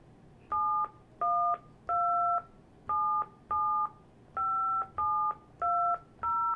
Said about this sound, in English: Please enter the telephone number you wish to dial. Now they want me to dial the dial-in number.